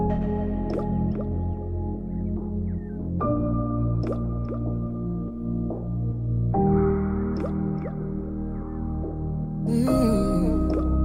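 An instrumental pop intro plays with steady sustained synth chords that shift every few seconds, dotted with bright plucked, dripping accents and a brief shimmering swell near the end; no voices.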